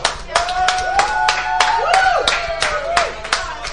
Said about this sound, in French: Je pense qu'on peut l'applaudir bien fort.